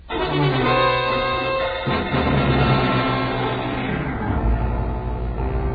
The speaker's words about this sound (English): Helen got to the front gate, out into her car and away without anybody bothering her.